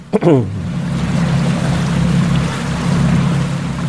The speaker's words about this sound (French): Voilà, c'est une jonque à moteur.